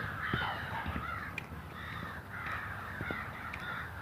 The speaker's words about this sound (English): Can you hear those crows?